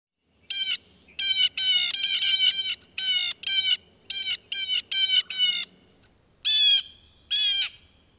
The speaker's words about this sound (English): Look and listen for the loud scolding of blue jays.